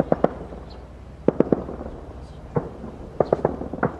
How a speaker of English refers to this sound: Gunfire echoed nearby, making this Kabul neighborhood feel more like a war zone than the setting for a peace conference.